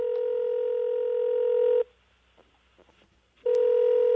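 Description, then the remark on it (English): A telephone rings twice with a steady electronic trill, each ring lasting almost two seconds with a short silent pause between, loud, with no voices. “It all sounds like there's a phone call coming.”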